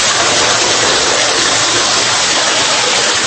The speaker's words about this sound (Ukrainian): Стіни з бетонних опор тут завжди вогкі. Температура 10 градусів тепла в будь-який сезон. Під ногами грязюка і струмочки води.